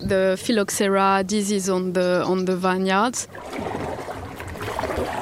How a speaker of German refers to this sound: Die Dordogne führt wenig Wasser, die Strömung ist schwach. Wir müssen kräftig paddeln, um voranzukommen. Puh, das ist anstrengend.